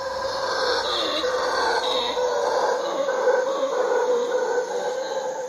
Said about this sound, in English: Amy Bovis runs a small hotel in Dominical, a surf town on the Pacific coast. People love the beach, sure, but she says they also love the sounds at night of the howler monkeys. She's recorded them.